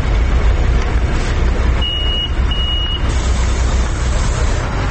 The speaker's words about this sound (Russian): Это автобусная остановка в 7:30.